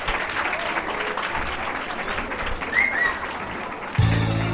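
An audience claps steadily in a dense, sustained burst of applause, a few brief whistles or cheers rising over it, before it cuts abruptly to a different, louder sound at the end.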